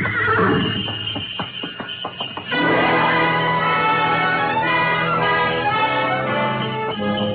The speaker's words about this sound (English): We glided out of the station, runners squeaking on snow, the soft pad of hooves, and the jangle of Mary Bell.